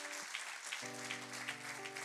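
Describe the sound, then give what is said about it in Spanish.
A church audience claps steadily in a dense, continuous wash of applause given to God as the King, with sustained keyboard chords ringing underneath and shifting partway through. “Así que como está el Rey, le vamos a dar un fuerte aplauso a él, porque se lo merece todo.”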